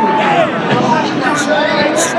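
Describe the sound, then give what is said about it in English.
A loud, steady stadium crowd roar of many overlapping voices, dense and unbroken, with a couple of brief high-pitched shrieks rising above the din. “Can you hear this crowd? Nobody's leaving.”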